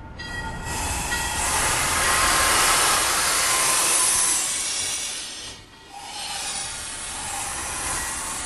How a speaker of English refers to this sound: But on a blue sky morning, the mustached 54-year-old is smiling as he glides his train out of Worcester Station towards Boston.